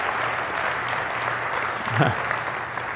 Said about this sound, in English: We're here to celebrate. We're not going to partially give him a little clap. We're going to do it. We're all going to do it. We're all going to do it together.